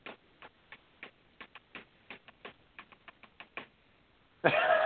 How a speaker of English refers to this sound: That was me clicking the message. Nothing's going on here.